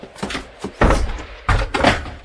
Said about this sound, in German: Der Riegel war zu. Meine liebe Pegotti hat ihn absichtlich so energisch und laut zugeknallt